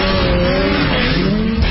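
A loud Rotax snowmobile engine on the Rev Gen 4 platform revs steadily with a rising mechanical whine, its harmonic tone climbing slightly as it accelerates, heard alone without any talking.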